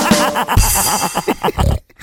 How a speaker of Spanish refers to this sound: Mira, ¿nunca has visto un marrano hacer como león?